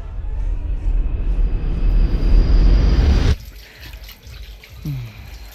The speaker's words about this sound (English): Why don't you go to the bathroom, splash some water on your face?